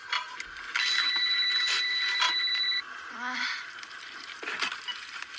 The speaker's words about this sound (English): So she was trying to watch some VHS movie while cooking popcorn, and then her phone rang. It sounded something like this.